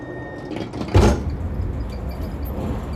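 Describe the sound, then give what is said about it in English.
An empty subway train rumbles in with a steady low roar, a faint high wheel squeal early on and a loud clanking burst about a second in, with no one speaking. “The train. Come on, let's go.”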